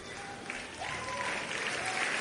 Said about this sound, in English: You can give him a big, big hand clap. He's worthy of it. Hallelujah.